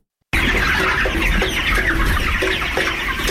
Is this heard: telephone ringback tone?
no